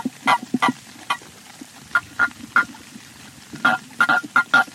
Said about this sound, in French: J'ai mis les grenouilles d'un côté, les crapauds de l'autre, et hop, en avant la fanfare.